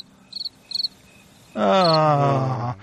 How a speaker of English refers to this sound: Play the crickets